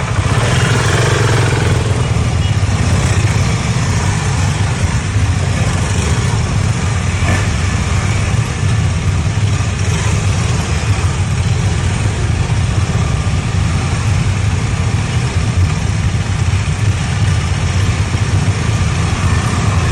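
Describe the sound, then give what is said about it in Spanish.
Several motorcycle engines idle together in a steady, rumbling drone with a low throb and some metallic clatter, loud and continuous throughout, with no voices, as motorcycles are prepared for handover to the National Police at the Cabildo. “Por favor, sala técnica, si nos muestra ya los preparativos de las motocicletas que serán entregadas hoy, justamente el acto será en el Cabildo.”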